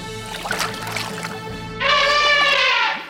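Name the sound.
elephant call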